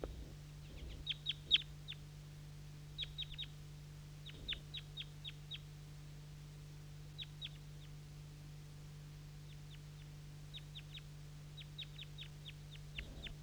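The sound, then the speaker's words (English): Two or three wild birds call from the top of a maple tree at almost 8 a.m. in quick bursts of sharp, high chirps, repeating in small clusters throughout, over a steady low hum with no talking. “Two or three wild birds calling from the top of the maple tree.”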